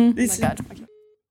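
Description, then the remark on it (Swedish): A brief burst of voice gives way to a single steady phone tone as a call is made on a mobile phone, a short mid-pitched ring sounding alone for a fraction of a second before silence. “Men du måste ringa nu.”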